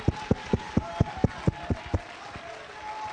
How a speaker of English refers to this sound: God's moving in this house right now by the power of his word. Come on, clap your hands. Give him a little high praise.